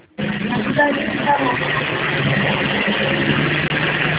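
A steady, droning bus engine rumbles continuously from inside the vehicle, a low hum with a faint vibrating hiss, heard muffled as if over a phone line.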